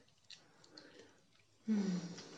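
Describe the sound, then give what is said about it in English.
Quiet wet mouth sounds of someone chewing and sucking on food, with soft smacking clicks that build into a louder, sustained slurp near the end. “need to suck all of this off. So I don't make a mess.”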